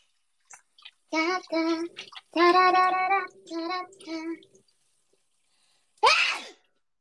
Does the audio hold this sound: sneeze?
yes